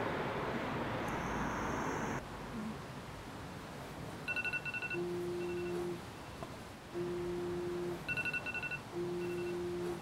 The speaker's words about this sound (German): Ist kalt. Man hört die Straße.